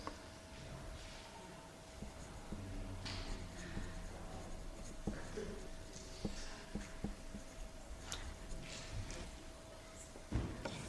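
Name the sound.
pens writing on paper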